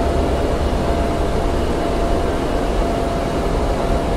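airplane engine running

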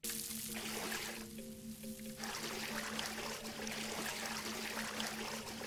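water trickling and pouring

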